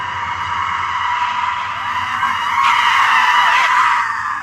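A woman screams loudly and continuously, a harsh, shrill cry that wavers in pitch and swells toward the end, with no talking around it.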